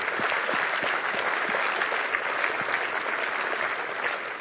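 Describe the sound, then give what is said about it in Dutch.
An audience at a church service breaks into sustained, grateful applause for the people who have made an important choice: a dense, steady wash of many hands clapping at an even loudness throughout, with no voices standing out. “Zullen we een dankbaar applaus geven voor de mensen die een belangrijke keuze hebben gemaakt?”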